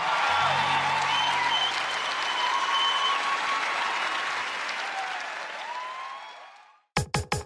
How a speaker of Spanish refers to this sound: El aplauso es para ti.